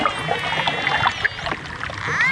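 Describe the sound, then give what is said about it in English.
Dolphin sounds recorded underwater: high, squeaky whistles that sweep up and down over a constant crackling, watery hiss, with a clear rising whistle near the end. “And dolphins.”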